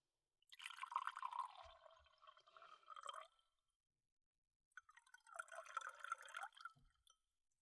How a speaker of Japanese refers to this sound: さっき見つけたお酒と、あとグラスもどこかにあるかな。あったあった。お待たせ。はい、注ぐね。